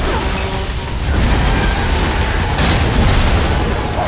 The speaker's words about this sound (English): Oh, my God. This is Unit 13 requesting medical assistance and backup for a major traffic accident.